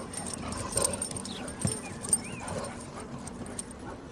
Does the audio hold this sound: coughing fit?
no